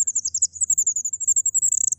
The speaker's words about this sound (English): It's called an incubation call. She only does it when she's on her own with her eggs. And in fact, we have a recording of a fairy wren incubation call, so you can hear the sorts of thing they're doing.